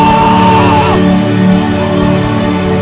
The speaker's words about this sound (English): Hey! Somebody scream! Hey!